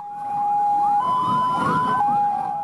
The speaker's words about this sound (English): Ambulances rushed to and from the Nyanya blast site, taking scores of injured victims to various hospitals in the capital city, Abuja.